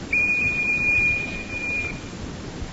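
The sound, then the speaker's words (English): A single steady, high-pitched whistle, blown by a doctor from one side of a patient during a hearing test, sounds for nearly two seconds, holding one even note before fading out over a low background hiss; no one speaks. “Now we shall try the whistle from this side.”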